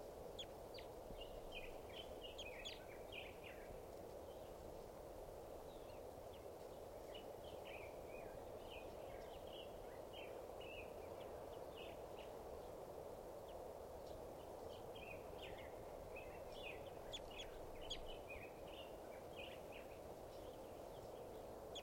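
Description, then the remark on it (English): A male wild bird, then collected as bird number 539, calls repeatedly in short, high-pitched bursts that come in clusters, ringing out over a steady, broad outdoor hiss with no talking. “That was him. So, just collected that male. He'll be bird number 539.”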